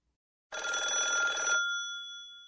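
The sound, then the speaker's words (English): A loud telephone bell rings in one rapid, rattling burst of about a second, then its metallic tone lingers and fades away. No one speaks. “Listen to the phone calls. Identify who they are looking for.”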